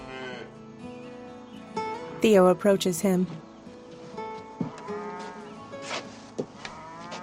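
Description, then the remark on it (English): Cattle in pens moo loudly in a short burst of overlapping calls, with a voice speaking calmly over the livestock sounds. “At the cattle pens, Crawl leans against a railing, staring off.”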